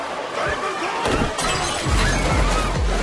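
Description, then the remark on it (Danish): Several loud smashing crashes in quick succession, with shattering, breaking debris and a low rumbling thud underneath, during a violent bar fight in which a doorman is hit on the head with a billiard ball. “Og løber ud, smadrer en med en billiardkugle.”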